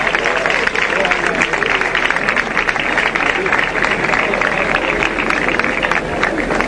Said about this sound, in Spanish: Suena el martillo, arriba, cuidado que se queda atrás la trasera. Se queda atrás la trasera, se enmienda ya. Y se termina poniendo en pie el paso. El aplauso.